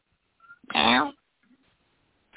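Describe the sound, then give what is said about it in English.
A cat gives one loud, drawn-out meow lasting about half a second, followed by faint rustling and quiet background noise. “And there's that cat.”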